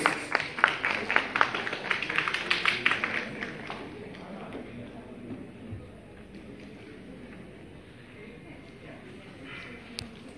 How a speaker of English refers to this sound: So please give it up, please welcome him with a huge round of applause